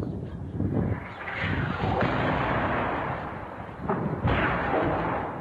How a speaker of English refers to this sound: So you can see the intensity of it. I mean, just every few seconds, an explosion. And this is a heavily built-up area with quite a lot of civilians still left there.